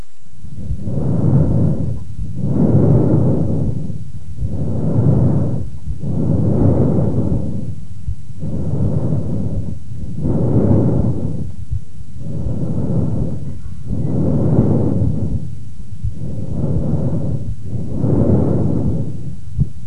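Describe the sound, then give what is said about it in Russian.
Loud, harsh laryngotracheal breath sounds heard through a stethoscope over the thyroid cartilage of the larynx, about ten breaths in a steady, even rhythm, each a rough hollow rush of air, with no talking. “Прослушайте ларинготрахеальное дыхание, зарегистрированное в области щитовидного хряща гортани.”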